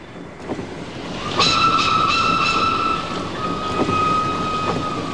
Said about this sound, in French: Cela fait 17 jours épouvantables que nous voyageons, et soudain, nous éprouvons une grande joie, car il fait presque nuit, et le train roule toujours. Il marche, et la nuit tombe de plus en plus.